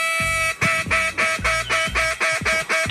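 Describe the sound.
A duck call blown by world champion duck caller and Pittsburgh Steelers quarterback Devlin Hodges blares a rapid string of about eight loud, raspy quacks in steady rhythm, insistent, imitating a duck with no voices alongside.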